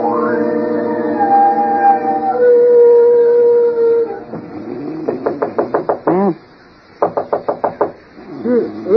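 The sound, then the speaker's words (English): A long, drawn-out dog howl gives way to two quick bursts of rapid knocking on a bedroom door, five or six sharp raps each, with whimpering sounds between them. “Somebody's at the door of this iceberg they call a bedroom.”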